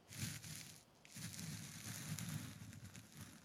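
Soft brushing and rustling of a foxtail cat teaser gently inserted and sweeping inside a customer's ear, a steady scratchy swish with a brief pause near the start, quiet and with no voices.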